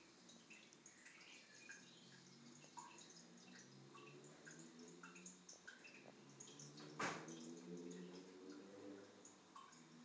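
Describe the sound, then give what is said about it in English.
A toilet drips steadily, small watery plinks and splashes repeating over a low background hum, with one brief louder splash partway through. “That other noise, it's toilet dripping.”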